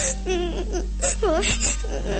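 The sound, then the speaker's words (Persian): A young child, portraying the young Pyotr Tchaikovsky, cries at night, with wavering, sobbing wails rising and falling in short bursts over a steady low hum in the background. “کوچولو چرا گریه می کنی؟”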